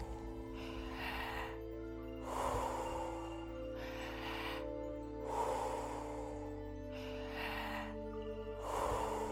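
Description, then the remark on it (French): Slow, deep breaths drawn in and pushed out in a steady rhythm, about every one to two seconds, over a low continuous droning hum. “Inspirez à fond. Expirez à fond.”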